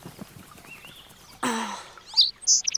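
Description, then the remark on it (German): Sparrows give a few quick, high chirps following a brief soft whooshing rustle; the chirps come in short bursts with no talking. “Ja, ihr Spatzen könnt das.”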